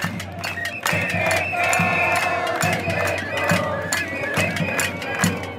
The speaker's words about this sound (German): Die meisten hier auf der Plaza Italia sind junge Leute, noch weit vom Rentenalter entfernt. Sie schlagen auf Töpfe, eine Protestform, die auf die Zeit der Pinochet-Diktatur zurückgeht. Und sie singen, Chile ist aufgewacht.